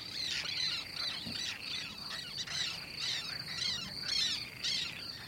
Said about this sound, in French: les guifettes, ce sont des petits oiseaux, il faut le rappeler, qui sont complètement migrateurs, qui passent tout l'hiver en Afrique et qui viennent chez nous à partir du mois d'avril. Et c'est un va-et-vient permanent au-dessus de l'eau